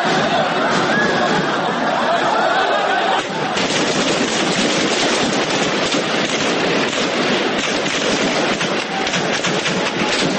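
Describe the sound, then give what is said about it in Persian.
Rapid bursts of gunfire crackle through a loud, chaotic street scene in Egypt during clashes at a mosque where hundreds of Islamists and Muslim Brotherhood members had taken refuge, the shots blending into a dense wall of crowd noise and shouting voices that never lets up. “پس از شنیده شدن تیراندازی‌ها، نیروهای ارتش با پرتاب گاز اشک‌آور وارد مسجد شدند و افراد داخل آن را بیرون آوردند.”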